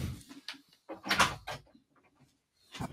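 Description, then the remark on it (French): A door is opened to let a black cat through, with a series of soft clunks and a rattle of the latch, then a brief scrape, fairly quiet, with nobody talking. “À l'instant, j'ouvre la porte au chat.”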